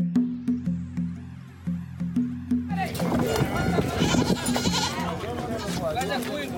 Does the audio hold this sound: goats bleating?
yes